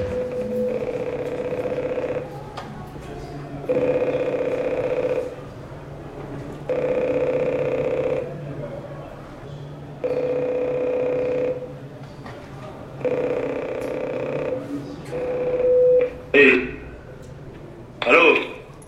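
A prison cell intercom at Fleury prison rings during a test with a steady electronic tone in five even bursts, each about a second and a half with short gaps, followed by a couple of sharp clicks and clunks as it's handled.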